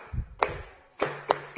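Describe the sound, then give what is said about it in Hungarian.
Four sharp hand claps land one at a time, fairly loud, clapped in place of instruments as a rough imitation of horseshoes clattering. No one speaks between them. “És akinél nincs úgy hangszer, vagy olyan, ami nem tikfa, akkor tapsoljuk a patkó dobogást, jó?”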